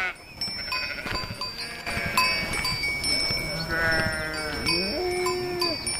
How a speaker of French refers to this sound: Et donc l'année dernière, on a débarqué avec une centaine de brebis pour faire un essai.